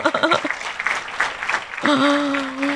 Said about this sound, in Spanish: Algunos tienen 2 años de estar aquí. ¿Quiénes son los que tienen 2 años? Veamos sus manos. Sí. Muy bien, para ellos también un aplauso.